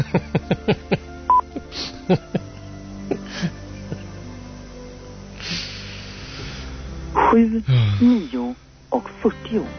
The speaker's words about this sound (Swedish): Så att, så går det till. Fröken Ur, direkt i sändning. 7, 9 och 30.